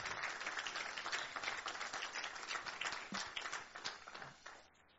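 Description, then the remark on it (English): An audience gives a clap offering to the Lord after a prayer, a steady, dense wash of applause that holds strong for several seconds, then thins and fades toward the end, with a few scattered voices mixed in. “Lift a clap offering before the Lord.”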